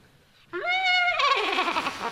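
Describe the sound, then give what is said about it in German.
A trumpet imitates a horse's whinny: a brassy steady note that breaks into a loud, quavering, downward-wobbling neigh for about a second and a half, heard alone. “Ein Pferd.”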